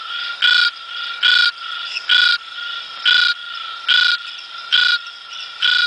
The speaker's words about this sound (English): Okay. Trying to guess this frog. Feels like it's misty and warm. Feels misty and warm. Okay. Where this frog inhabits. Let's have it again.